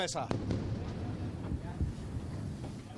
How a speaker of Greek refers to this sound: Βλέπετε τους πυράβλους αναχέτησης και τις εκρήξεις. Μέσα στη θάλασσα, στη θάλασσα. Έχουν εκρήξεις μέσα στη θάλασσα.